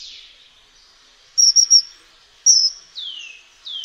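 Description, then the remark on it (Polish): High, thin whistles of a kingfisher, heard alone: a quick cluster of three short notes, then a single note, followed by two slightly longer whistles that drop in pitch. “Zdradza go jednak charakterystyczny, prosty, wysoki gwizd. Spokojny ptak wydaje pojedyncze, jednosylabowe gwizdy.”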